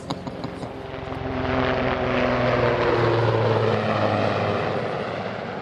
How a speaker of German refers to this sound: Auf dem Militärflughafen Bayern. Ein Helikopter, ein Super Puma, führt Kunststücke vor. Senkrecht steigt er in den Himmel, steht still und schnellt plötzlich in die Tiefe. Es sieht aus, als würde er gleich abstürzen.